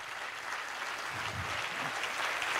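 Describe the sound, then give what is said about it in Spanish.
An audience applauds steadily, a dense wash of many hands clapping at an even, sustained level with no pauses, and a faint low murmur of voices underneath. “Si ese aplauso es para el Señor, dáselo mejor, dáselo mejor, dáselo mejor.”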